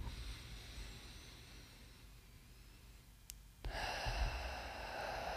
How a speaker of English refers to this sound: What you do is you just breathe in slowly through your nose. And as you're breathing in, you're just feeling your whole body just kind of fill up with air.